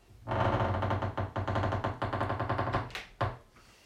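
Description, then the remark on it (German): The door of a knights' hall creaks open slowly in one long, loud, ratcheting groan of rapid crackling pulses, lasting about three seconds before stopping with a final sharp creak. No voices are heard. “Leise, quietschend öffnet er die Tür des Rittersaals.”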